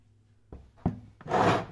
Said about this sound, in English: Well, move that chair to an open space and let's get to work.